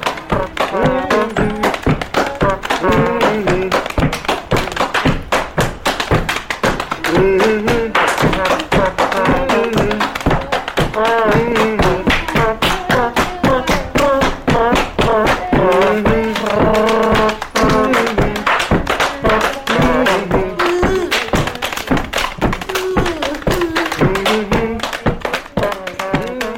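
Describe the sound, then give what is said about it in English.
Hambone body percussion: rapid, steady slaps and taps on the body keep a driving rhythm for the whole stretch, loud and continuous, with voices chanting or singing along over the beat. “using tools and buckets and just playing the body. It's called hand bone.”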